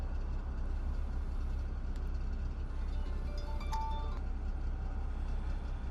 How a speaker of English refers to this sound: That's the road train just started up. He does that every morning at 4:30.